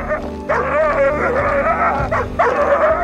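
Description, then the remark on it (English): A dog, Pluto, snarls and vocalizes aggressively while pulling on his leash, loud, in a few tense bursts with rising and falling pitch that run almost continuously through the short moment. “Pluto snarls and pulls on his leash.”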